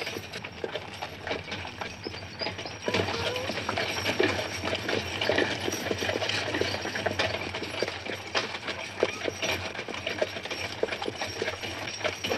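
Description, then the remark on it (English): Steady clip-clop of horse hooves on a hard road, with the rattle and creak of a horse-drawn wagon of a travelling puppet show rolling along, continuous for the whole stretch. “Why horses? Because they're slow. And I like slow things.”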